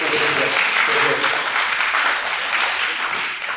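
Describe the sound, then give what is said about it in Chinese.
An audience claps steadily and fairly loudly, a dense continuous patter of many hands that holds for a few seconds and eases off slightly at the end. “那给大家掌声鼓励啊！”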